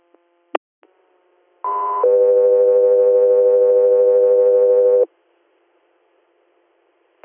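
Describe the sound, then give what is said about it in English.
A loud two-tone dispatch paging alert for Guthrie Air: a short higher-pitched tone steps straight into a long, steady lower tone lasting about three seconds, framed by faint radio clicks before and after. “Guthrie Air, standby for tones.”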